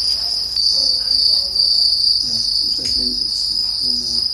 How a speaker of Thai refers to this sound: เป็นคนบุกเบิกการทำฟาร์มจิ้งหรีดค่ะมีจุดเด่นคือเสียงร้องที่เป็นเอกลักษณ์แต่ว่ากลายมาเป็นอาหารทางเลือกของผู้คนในเคนยาค่ะ